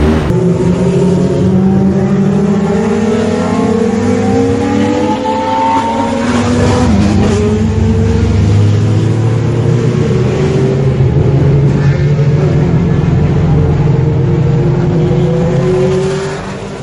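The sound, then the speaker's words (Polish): A Formula 1 car engine revs loudly and climbs through rising gear sweeps as the car pulls away, a continuous high-pitched mechanical roar with no talking. “Bolid odjechał”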